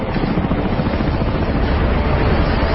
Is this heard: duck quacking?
no